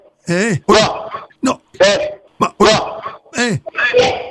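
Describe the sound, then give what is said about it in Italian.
A run of about eight loud barks in quick succession, each short and sharp with a rising-then-falling pitch, separated by brief gaps. “Ma mi scusi, c'è un cane o le abbaia?”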